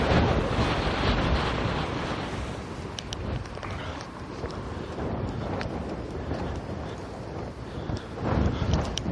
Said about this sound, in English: So yeah, here I am in the wind. Clouds are closing back in again. It's really windy. Have I said that yet? It's really windy.